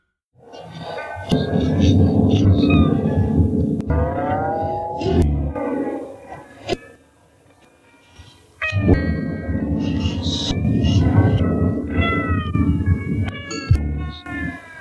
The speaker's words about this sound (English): My inmost thoughts recall an autumn sunset when the deer calls echoes over the fields.